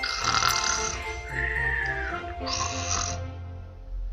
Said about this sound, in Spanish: Muy pronto, los cuatro se quedaron profundamente dormidos. Hasta roncaban.